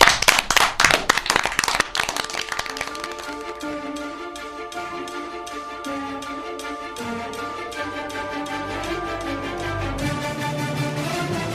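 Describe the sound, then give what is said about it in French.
A loud burst of audience clapping for an interviewee at the end of an interview fills the first couple of seconds, then fades as steady, rhythmic music with sustained tones takes over for the rest. “Merci, on applaudit bien fort”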